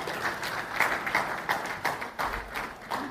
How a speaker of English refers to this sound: can I ask all the moms to come out and come down here up to the front, please? Come on, let's cheer them on.